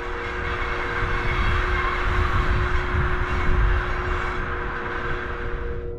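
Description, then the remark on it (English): A train headed back to Mandalay rolls steadily along the rails, a continuous loud rumble with deep low-end vibration and a faint steady hum, with no voices. “And I got on a train, headed back to Mandalay to catch my flight.”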